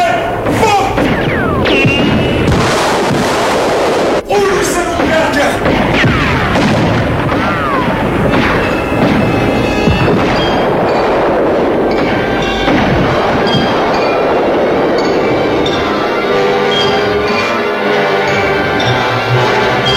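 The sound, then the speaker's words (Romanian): A dense, continuous rumble of an artillery bombardment preparing an attack on a mountain pass, with heavy booms and crashes overlapping and one sharp, loud crack standing out early on. The roar stays loud throughout, with muffled voices mixed in. “Era de prevăzut că după pregătirea asta de artilerie vor încerca să străbată iar trecătoarea.”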